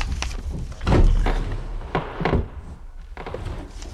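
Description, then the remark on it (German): A wooden desk drawer is pulled open with a few dull thunks and rattling scrapes as the desk is searched, followed by softer shuffling and knocks of items moving inside, with no talking. “Als erstes sollten wir dort den Schreibtisch untersuchen. Mal sehen, was sich in den Schubladen befindet.”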